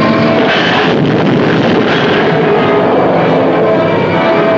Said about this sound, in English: Suddenly, a plane dives to death.